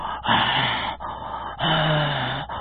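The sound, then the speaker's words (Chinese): A voice imitates the heavy, labored breathing of a ragged, exhausted man lying on a mountain rock: two long, rasping, breathy pulls with a faint groaning tone, fairly loud, separated by brief pauses, with no talking. “正这么个功夫，忽然听见旁边有这喘气的声音，这气息还挺粗重。”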